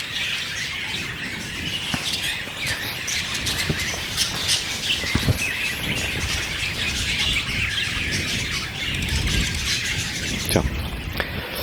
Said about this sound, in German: Ja, als wäre das hier vielleicht ein Vogelkäfig oder so. Deswegen vielleicht auch das Licht. Ja. Hört man das gut? Das macht ganz schön was los.